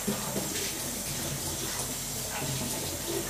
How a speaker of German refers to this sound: Ja, ein bisschen kalt, um Schüsseln zu waschen. Da brauchen wir schon warmes Wasser.